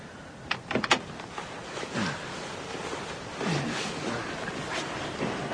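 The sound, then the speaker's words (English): A car door unlatches with a few sharp clicks, then swings open with a soft creak and rustling movement, no voices present. “Let's put her on the back seat. Open the door.”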